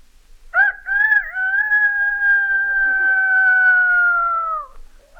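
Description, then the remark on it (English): A single long rooster crow, loud, rising sharply then holding a steady drawn-out note for about four seconds before dropping off, with no other sounds around it. “A rooster.”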